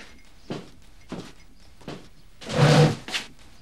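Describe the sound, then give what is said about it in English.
A few soft knocks and shuffles, then a louder drawn-out scrape with a slight squeal as a chair drags across the floor while a boy stands up by a table, followed by one last bump. Clear, with no talking. “Hearing the noise of the chair, Oakley turns to see the boy standing up by the table”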